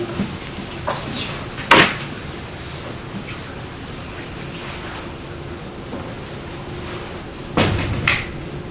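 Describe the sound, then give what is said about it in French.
A door is pushed shut against a steady hiss of room noise: one sharp knock early on, then a pair of thuds as it latches near the end. “Quelqu'un pourrait fermer la porte”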